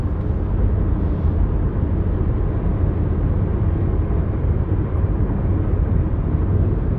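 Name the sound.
airplane flying overhead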